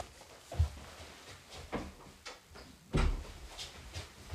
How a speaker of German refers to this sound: Warte, Leute, ich mach kurz die Tür zu.